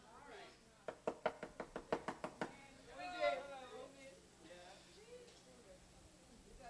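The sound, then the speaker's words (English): A quick run of about nine sharp, evenly spaced, loud knocks on a hard wooden surface, followed by a man's voice speaking. “Anybody home? We're not even home. You can't hear the knock.”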